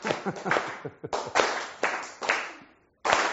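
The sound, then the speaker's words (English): Sharp, bright hand claps repeat in a steady upbeat rhythm, clapping along to demonstrate the upbeat style, with the emphasis on the first beat, several in quick succession with short ringing decays, then a brief gap before one more clap. No one speaks. “Like you can play clap along.”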